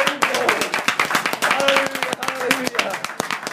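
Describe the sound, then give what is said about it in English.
A worship audience claps in praise of the Lord in quick, steady bursts of sharp, loud hand claps, with voices calling out over the clapping throughout. “Let's give the Lord a hand clap of praise and worship tonight.”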